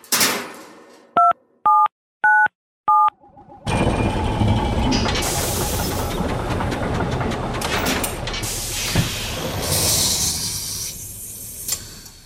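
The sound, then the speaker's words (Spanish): Four short, evenly spaced electronic keypad beeps, each a bright two-note tone, tapped on the keyboard of a time machine called the cronovisor before a loud, hissing, roaring whoosh floods in and continues to the end. “Jesús, como siempre, tenemos delante el teclado de nuestra máquina del tiempo.”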